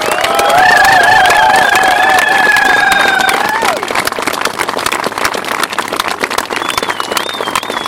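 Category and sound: crowd, audience applause and cheering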